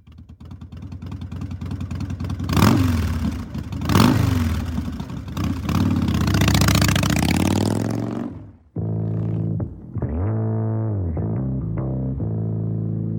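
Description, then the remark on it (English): A motorcycle engine revs hard several times in quick bursts, loud, then settles into a lower, steadier rumble with a couple of smaller throttle blips. No one speaks. “I was really afraid of the sound of a motorcycle.”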